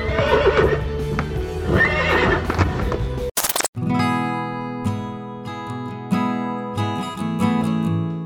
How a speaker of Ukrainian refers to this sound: прошу показати Дмитра, улюбленого коня. Він веде до першого біля розтрощеного входу у конюшню стойла. Кобилку в яблуках звати Ольга Іванівна.